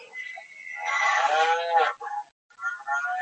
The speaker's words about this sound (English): And there is the cow.